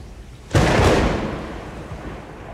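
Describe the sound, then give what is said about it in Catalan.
A sudden, loud clap of thunder close by bursts in with a sharp crack, then rolls into a broad, rumbling roar that slowly fades over a couple of seconds. No one speaks. “No, el tro és la veu del porc sagrat.”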